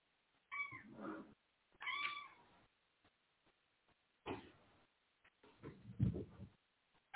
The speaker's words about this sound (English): So, oh, here comes my cat screaming. I told y'all on Wednesday, I'm like, she, when we do the show, she always likes to come in here, but she just come right now, just came busting through the door screaming.